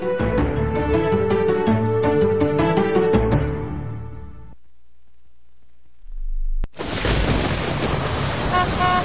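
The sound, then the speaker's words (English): A loud, blaring school bus horn sounds for about three seconds in rapid pulses, then trails off into near silence before a steady wash of pouring rain comes in. “Kids, the bus is here.”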